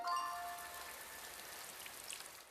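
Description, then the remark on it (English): A light rain sprinkle patters softly and steadily, with a faint hiss of fine drops and a few brief tinkling tones near the start. No voices are present. “Where's rain when you need it?”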